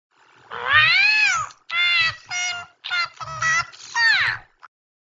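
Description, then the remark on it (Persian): A person mimics a cat with a series of drawn-out, wailing meows, one long cry followed by several shorter ones in quick succession, loud. “صدای گربه، زبون گربه ای فریاد زدی؟”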